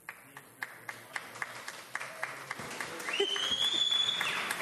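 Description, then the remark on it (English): Sparse hand clapping at a meeting, fairly soft, with claps landing in a steady, regular rhythm; partway through, a high sustained whistling tone rises and continues over the clapping to the end. “I'm not supposed to allow applause either.”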